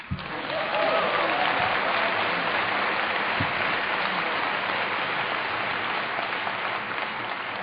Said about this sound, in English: There's a strong clap anything faction here tonight. apparently even I can appeal to it.